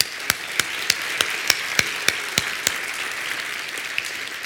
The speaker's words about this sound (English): And it's so easy to rejoice in a day like this. Let's applaud the day.